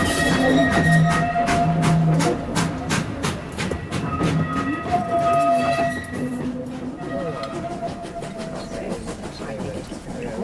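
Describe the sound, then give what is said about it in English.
A train pulls away and rolls along the rails, its wheels beating a steady, fairly loud clickety-clack that fades after a few seconds into a lower rumble, with faint squealing tones above. “Looks like we're off.”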